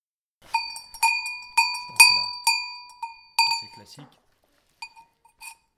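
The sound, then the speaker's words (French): A Chamonix-style cow bell, a bell for cows, clanks in a loose, irregular rhythm, about eight bright metallic strikes with sustained ringing tones, then a few fainter clinks after a short pause. “On s'écoute quelques cloches ?”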